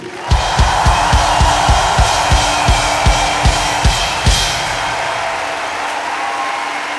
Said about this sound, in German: Und darum möchte ich erst einmal einen großartigen Applaus für unsere fantastische Crew.